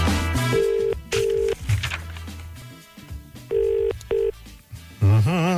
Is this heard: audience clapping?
no